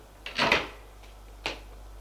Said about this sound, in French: L'homme entre. Didier ferme la porte.